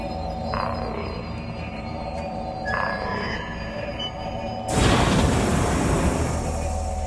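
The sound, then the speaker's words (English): A train pulls into a station with a steady low rumble and faint squealing tones, then a sudden loud, broad hiss bursts out near the end as it comes to a stop. “As the train pulls into a station, Luke sits motionless in his seat.”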